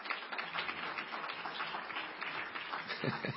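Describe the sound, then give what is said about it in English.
An audience applauds in a steady, dense wash of clapping that holds at an even, moderate level for a few seconds, with no one speaking over it. “Yeah, clap now, because when you see the information I'm about to give you, there's going to be stone silence.”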